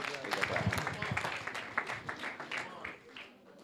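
An audience breaks into applause: a dense wash of many hands clapping at once, fairly loud and close, tapering slightly toward the end.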